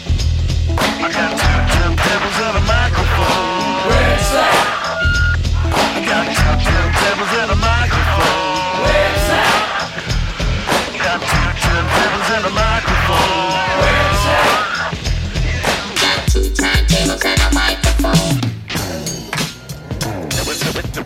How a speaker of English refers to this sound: That was a good drum break.